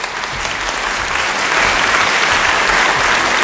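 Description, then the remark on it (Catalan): A show's audience rises to its feet and applauds steadily, a dense wash of clapping hands holding an even, loud level for several seconds with no voices standing out. “si us plau, ara vull que la nostra audiència s'aixequi per aplaudir un altre bonus dels recursos d'aquest país”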